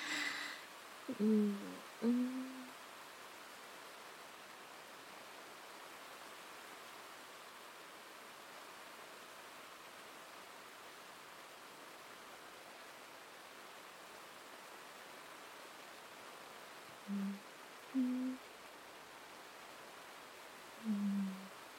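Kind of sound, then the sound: nature, rain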